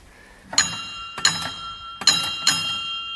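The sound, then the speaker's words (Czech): A small sacristy bell in the church in Sazovice, used to start the service, rings four times in two quick pairs, each strike bright and metallic with a ringing tone that lingers briefly. “Můžeme zazvonit posluchačům na zvonek u zákristie?”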